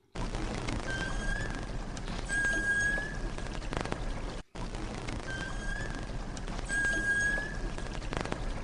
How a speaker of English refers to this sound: Right, we have more recordings from Watkins Archive. Let's hear two different recordings of a beluga whale. Here's the first one.